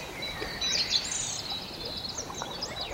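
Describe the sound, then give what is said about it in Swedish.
A song thrush sings a rapid, varied song of chirps, trills and whistles, weaving in mimicked calls of Eurasian woodcock, common snipe and black woodpecker, heard alone and fairly faint against a soft outdoor background. “Oh, det kan lägga in härmningar. Här var det bland annat skogsnäpporna och enkelbeckasinerna och spillkråkor.”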